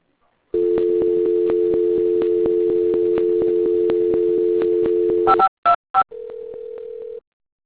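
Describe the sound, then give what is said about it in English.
A steady telephone dial tone hums for about five seconds, then three quick touch-tone dialing beeps, followed by a single sustained ringing tone, as a caller dials a colleague to add him to an ongoing call. No one speaks. “Let me get John on the phone.”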